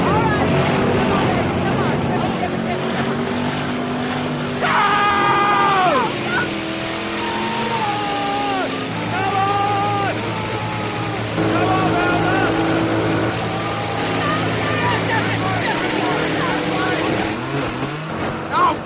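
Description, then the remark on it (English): Racing tractor engines rev loudly at the start of a sudden-death race, their whining pitch surging upward in repeated bursts and dipping between them over a steady mechanical drone. “Start your engines!”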